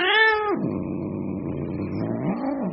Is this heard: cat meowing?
yes